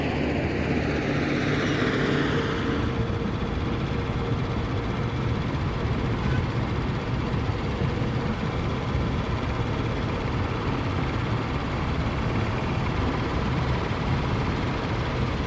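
A steady, continuous low rumble of a car carrying several passengers and a family through city streets, engine and road noise holding an even level throughout, with a brief brighter hiss at the start and no talking.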